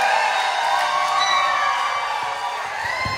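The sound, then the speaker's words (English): A concert crowd cheers and screams continuously for an encore, many high voices shouting and whooping together in a loud, sustained roar that holds steady for a few seconds. “She has a cold, so you gotta scream really loud, and I bet she'll come back.”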